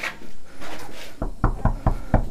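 Knuckles rap on a door in a quick run of about six or seven firm, evenly spaced knocks, close by, following a moment of soft rustling and hiss.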